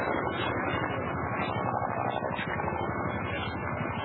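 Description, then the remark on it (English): A helicopter in the distance near the Davidian compound, a steady low droning rumble with a faint rhythmic chop running through it, continuous for the whole stretch with no voices. “You hear helicopter off in the distance there.”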